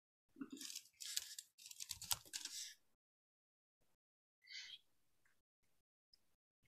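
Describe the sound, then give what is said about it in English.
A flurry of clattering keystrokes on a computer keyboard for a couple of seconds, then a pause and a brief second burst of typing, with no talking. “Just type in keyboard sound.”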